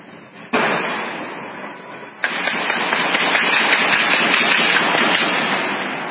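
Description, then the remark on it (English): Two sharp, loud gunshot-like cracks ring out about two seconds apart, followed by a dense, continuous roar of rapid gunfire and noise that fades slightly at the end, from police outside in a gun battle with a terrorist. “here's some of the dramatic footage outside of the police involved in a gun battle with the terrorist.”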